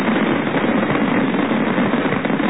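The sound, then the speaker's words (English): A dense, continuous barrage from a huge fireworks display at night in New York, celebrating the Brooklyn Bridge's birthday. Rumbling booms and crackles blur into a steady roar with no separate bursts standing out. Loud and sustained throughout, with no voices. “But the most spectacular event was the huge fireworks display that lit up the sky as the night drew to a close.”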